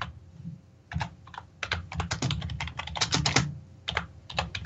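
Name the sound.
typing on a keyboard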